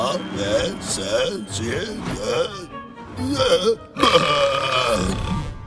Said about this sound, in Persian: بعدش بهم گفت که آیا میتونم با آروغ زدن حروف رو بیان کنم و من گفتم آره معلومه که میتونم. میخوای بهت نشون بدم؟